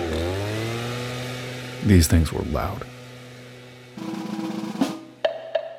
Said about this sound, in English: That commercial shows a person with a backpack engine setup, a big hose coming out, blowing leaves across a green lawn. What you can't really tell in that commercial is that these things were loud.